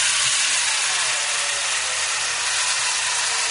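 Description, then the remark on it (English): Tony Young's 14-inch chainsaw cuts steadily into ice in the carving studio of an ice sculpture company in Conshohocken, suburban Philadelphia, a loud, continuous hissing roar with a faint whining engine tone beneath it and no pauses or voices. “Tony Young with his 14-inch chainsaw.”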